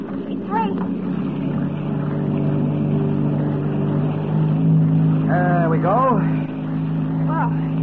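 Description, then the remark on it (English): A motorboat engine drones steadily, a low continuous rumble with a rising pitch as the boat is cast off and gets underway at daybreak, while a couple of people speak briefly over it. “We don't want Boris to see us stealing his boat.”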